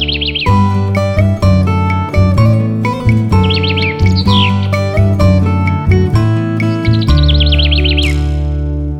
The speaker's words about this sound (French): la chanson du petit pinson, toujours gai luron, gai comme un pinson.